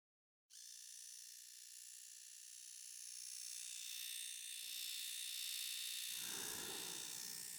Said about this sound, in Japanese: それでは、シェーバーで産毛処理をしていきますね。失礼します。